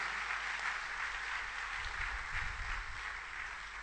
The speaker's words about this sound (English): In your family, in your environment, community, your school, wherever you are, give a clap offering to Jesus, somebody.